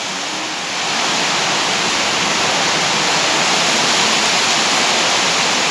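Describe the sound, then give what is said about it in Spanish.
A dense, steady roar of heavy rain pours down continuously, loud, building slightly in the first second and then holding constant with no voices present; the rain is growing ever heavier. “Cada vez llueve más fuerte, tengo que hablar más fuerte.”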